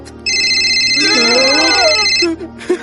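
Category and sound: signal or alarm, telephone ringing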